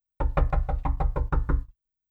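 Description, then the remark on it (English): A rapid series of about eight firm knocks on a wooden door, loud, delivered in a steady rhythm and then stopping. “As soon as they lay down, they hear another knock.”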